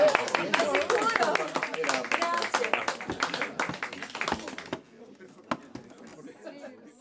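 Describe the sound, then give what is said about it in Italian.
A crowd bursts into dense, lively applause with some murmuring voices mixed in, welcoming two young actors about to perform a comic theatrical duet, then the clapping thins out and fades to a few scattered claps before stopping. “Un applauso, per favore.”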